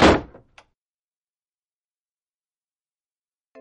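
door slammed shut

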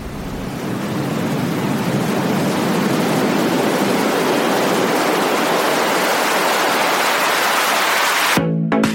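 sea waves

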